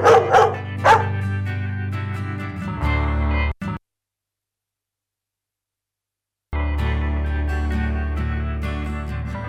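A dog barks three times in quick succession at the start, loud and close, over a steady musical backing that cuts to silence for a few seconds before the music returns.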